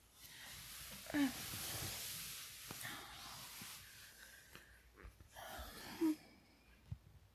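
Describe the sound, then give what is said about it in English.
Soft, airy breathing rises and falls in two slow breaths, a long hissy exhale at the start and another near the end, quiet with small shifts and rustles between. “Just listen to the sound of each other breathing.”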